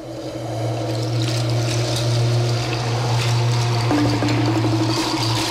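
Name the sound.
flowing river water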